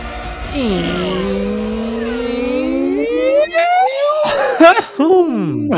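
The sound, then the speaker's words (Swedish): A person imitates a Formula 1 car with a buzzing, droning voice that climbs steadily in pitch like an engine revving up, then breaks into a few quick choppy revs near the end. “Jag försöker emulera hur en riktig F1 låter.”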